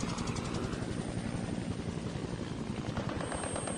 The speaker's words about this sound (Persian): داخل هلیکوپتر صدای ملخ‌های قدرتمند شنوک همه صداهای آدم‌ها رو بلیده بود.